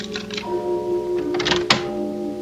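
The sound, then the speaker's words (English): A key scrapes into a door lock in a few short metallic rattles, then turns and ends in one sharp click, over a steady low humming drone. “A key was being inserted in the lock, and I could hear it turn.”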